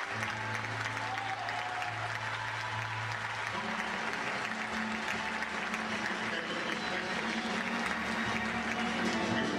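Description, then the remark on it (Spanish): Sustained applause from a crowd, a dense steady clatter of many hands clapping at an even loudness throughout, with a low hum running underneath. “Bueno, es que el aplauso, tenía muchos años de no ir a su tierra.”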